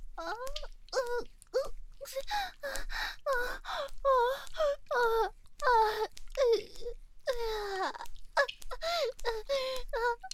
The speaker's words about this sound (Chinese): 你可以听着我喘气的声音